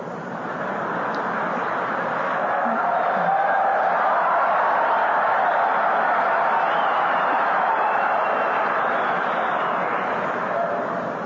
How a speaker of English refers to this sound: Sounded like the men that were cheering on that one.